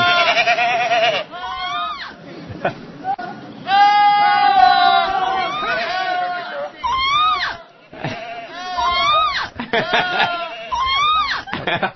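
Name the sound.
goat screaming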